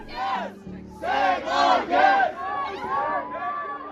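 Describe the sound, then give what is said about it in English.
A crowd of supporters of a women's team chants outside the stadium on the Gold Coast after the team's final match, some trying to block the team bus from leaving; loud, rhythmic bursts of massed voices, each shouted phrase rising and falling in a steady beat with a low rumble underneath. “After playing their final match on the Gold Coast, supporters of the women swarmed outside the stadium, with some even attempting to block the bus from leaving.”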